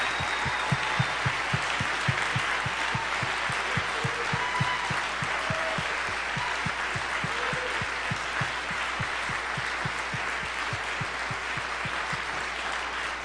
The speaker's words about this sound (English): Come on, let's give them a good round of applause and a big thank you.